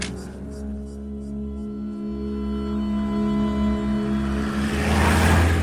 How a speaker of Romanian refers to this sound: Taxiul a luat-o spre centru, iar traficul e o nebunie. Mașini, mașini ca sardelele în cutia de conservă.